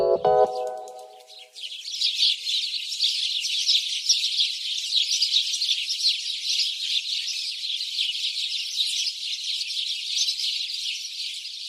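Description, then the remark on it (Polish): House sparrows chirp in a dense, continuous chorus of rapid overlapping chatter that stays steady and fairly loud throughout, after a brief tonal sound right at the start. “W powojennej Polsce wróbel dwukrotnie uzyskał status ikony kultury dziecięcej.”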